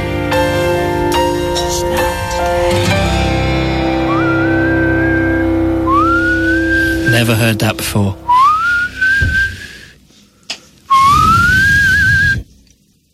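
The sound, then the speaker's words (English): A thin, high kettle-like whistle rises and wavers in repeated bursts over the tail of a dense, distorted song, growing more isolated as the music drops out, with a brief spoken remark near the end. “My only problem is, at the end of there, what's with the little whistly bit like someone's boiling a kettle?”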